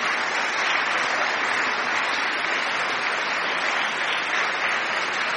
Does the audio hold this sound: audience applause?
yes